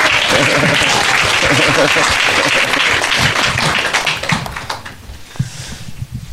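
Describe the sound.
A crowd applauds with dense, steady clapping that holds loud for about four seconds, then thins out and fades, with a few scattered claps and faint murmuring voices at the end.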